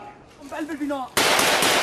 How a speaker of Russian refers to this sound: Другой видеоролик, загруженный 1 мая, показывает, как члены одной из повстанческих группировок ведут перестрелку с войсками Башара аль-Асада. Как предполагается, бой ведется в городе Аль-Млейха, расположенном на востоке от Дамаска.